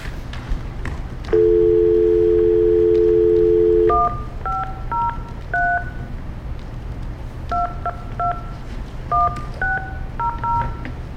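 A steady dial tone hums for a few seconds, then a quick series of short two-pitch keypad beeps rings out as a phone number is punched in, clear over faint background noise.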